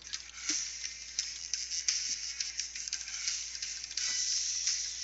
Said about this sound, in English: I hear typing that isn't on the Skype chat.